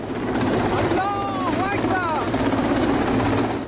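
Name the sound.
helicopter hovering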